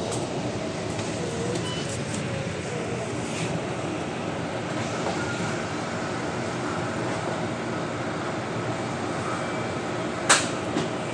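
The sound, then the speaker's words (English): Steady, droning rumble of an SBS Transit double-decker bus in motion in Singapore, heard from the top deck directly above the driver's head, with constant road and engine noise and one sharp clack near the end. No one speaks. “I am directly above the driver's head on the top deck.”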